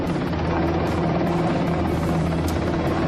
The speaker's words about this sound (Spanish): A las 10:45 minutos, con la emoción de los pequeños que no dejaban de mirar al cielo, Melchor, Gaspar y Baltasar aterrizaban en el Estadio Municipal de Las Gaunas de Logroño, en un helicóptero Batallón de Maniobra Belma 3.